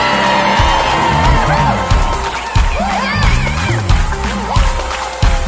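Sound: audience shouting and cheering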